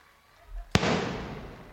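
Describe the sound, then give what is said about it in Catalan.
A festival rocket goes off: a brief low rumble, then one sharp, loud bang whose bright, hissing crackle fades slowly over the following second. “i llavors a veure si podem sentir els coets.”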